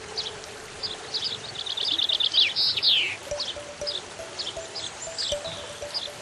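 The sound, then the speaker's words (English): Several songbirds, including finch, lark and blackbird, sing at once, a busy overlapping chorus of bright chirps, trills and whistled phrases, with a steady rushing wash like running water underneath. No one speaks. “Finch, lark, blackbird, birds of every description filling the air with joyful song to greet the everlasting summer.”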